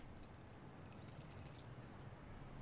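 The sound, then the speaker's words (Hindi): A bunch of keys jangles as they are handed over, with a quick run of bright metallic clinks for about a second and a half, fairly soft against a low background rumble, then settles into quiet. “अच्छा उन्हें चाबी दे दो।”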